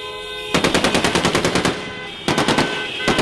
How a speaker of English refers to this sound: Honking their horns and firing into the air, rebels paraded through the iconic Green Square today, now renamed Martyr Square, in a show of force and celebration.